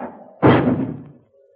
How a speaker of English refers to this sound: Valley Forge, 1778. A shrill, bitter wind howls savagely in the valley, slamming a shutter dismally at Washington's headquarters.